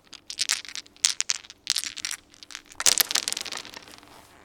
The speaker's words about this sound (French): Le problème, c'est que j'ai pas de piste de dés, mais les dés, du coup, t'as un peu ce bruit. Ça, c'est... On est très proche des galets sur la plage.